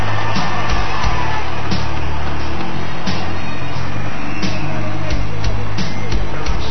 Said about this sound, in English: Listen to the fans cheering for Chris Ross